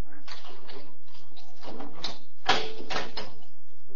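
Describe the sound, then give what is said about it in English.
A heavy steel door leading to the cell blocks is opened in a series of scraping, creaking bursts that build to a louder, harsher grind near the end, then trailing off. “I'll get the door.”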